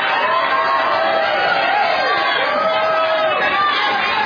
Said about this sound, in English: Another 5,000 to the orange team for cheering.